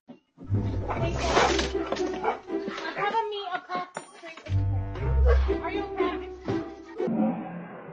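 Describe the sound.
A dog barks loudly and repeatedly, its yelps breaking into whining whimpers, with a low rumbling background and indistinct human voices mixed in throughout.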